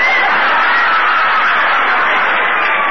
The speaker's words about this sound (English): Here comes halfback Hope running out of the field. The crowd sees him. Just listen to those screams.